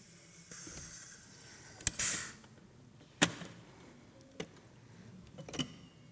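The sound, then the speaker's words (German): A hissing burst of pressurized gas from a soda maker carbonating a bottle of water after its button is pressed builds for a couple of seconds and stops with a sharp release, followed by a few scattered clicks and knocks. “Ab in den Wassersprudel damit, auf den Knopf.”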